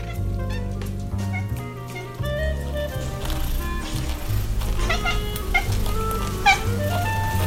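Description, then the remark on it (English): A cat looking out a window at birds outside makes repeated chirping, chattering calls in short bursts, with the sharpest ones near the end, over steady background music with no talking. “I thought she was talking to me. The cat is actually, she's looking out the window. There are birds outside.”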